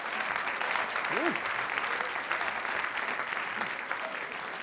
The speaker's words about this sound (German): Klatscht mal für das Futur 2. Es tut ihm mal gut.